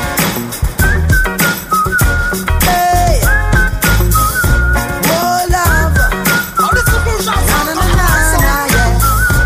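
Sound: human whistling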